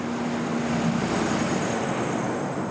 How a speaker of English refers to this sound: And coming down the street here is a truck. It looks like a semi of some sort. Yeah, it's a coal truck. That's a coal truck running. And those are 24 hours a day here.